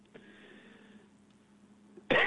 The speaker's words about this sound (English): Sorry. Little allergy season thing, cough.